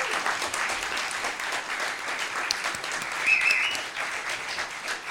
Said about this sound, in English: Can we have another round of applause for everyone on stage?